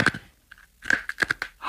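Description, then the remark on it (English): Lifesavers hard candy mints being crunched between the teeth in the dark, a handful of sharp, brittle cracks in an irregular chewing rhythm, loud and with no one talking. “The kids tell me that when you chew on them, they give off a glow, something like a spark or a sparkle.”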